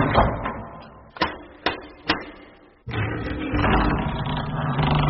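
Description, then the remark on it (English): Three sharp, evenly spaced knocks on the door of Babblewick Hall ring out over a low rumbling background, followed by a brief moment of near silence before the noisy rumble returns. “If you're deaf, how do you know I knocked the door?”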